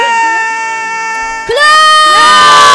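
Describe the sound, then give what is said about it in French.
A group shouts and cheers loudly and without pause, their voices swelling to an even higher, more excited pitch halfway through. No words can be picked out. “Alors je vais crier.”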